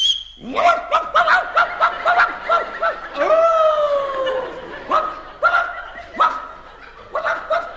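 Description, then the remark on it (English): A man imitates a dog with a rapid run of loud yapping barks, breaking into a drawn-out whining howl midway, then more sharp barks, with laughter faintly underneath. “Now, you don't feel like a dog, for instance.”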